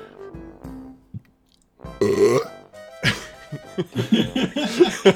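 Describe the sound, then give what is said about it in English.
A loud belch rumbles out after a quiet start, followed by a drawn-out, croaky stretch of further burping with gurgling, uneven pulses. “Did you feel the burp that went all the way inside your butt, Master?”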